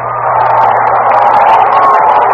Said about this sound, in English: There's a long drive. Way back. Might be out of here. He's got a chance near the wall. It's curving. It's a foul ball. 5 inches. Listen to the crowd.